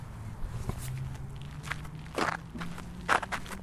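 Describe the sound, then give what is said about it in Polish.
Slow, crunchy footsteps on a gravel path in Ujazdowski Park, a few scuffing steps spaced unevenly, over a low steady hum with no one talking. “Kroki po alejce w parku ujazdowskim.”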